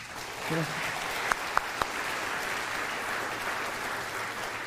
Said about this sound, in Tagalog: Sino dito nagsasabi na siya'y pinagalig ng Panginoon sa kanyang karamdaman? Pwede bang pumalakpak ng malakas?